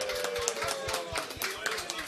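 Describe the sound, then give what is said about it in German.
A crowd at the B-Brothers Store applauds a regular guest who has turned 18, with steady, dense clapping that runs the whole two seconds at an even, moderate loudness, plus a faint low hum underneath. “Applaus”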